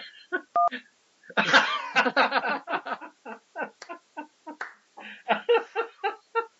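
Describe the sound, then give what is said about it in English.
A muted call participant communicates with electronic beeps: a short button beep sounds once, then a rapid, uneven flurry of brief chirping blips follows for several seconds, like a button being mashed over and over. “Beep once for yes and twice. Should change trust? Topics, just mash the button.”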